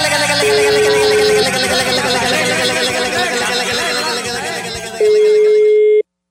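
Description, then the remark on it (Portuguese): A telephone rings on the line with steady electronic tones as a call is placed again, one near the start and another near the end, over a busy, noisy background of indistinct voices. “Eu vou ligar agora pra ele. Eu ligo de novo.”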